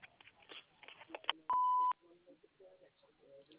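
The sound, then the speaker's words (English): A single steady answering-machine beep, loud and flat-toned, lasting under half a second, set between stretches of muffled telephone-line speech. “If you would leave your name, number, and a brief message after the beep, I will get back to you as soon as I can.”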